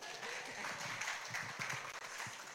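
audience applause

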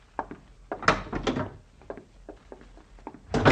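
door being opened

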